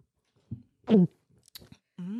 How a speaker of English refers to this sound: She swallows. ASMR. Now she swallows.